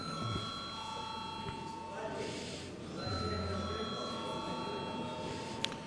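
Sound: parliament voting call bell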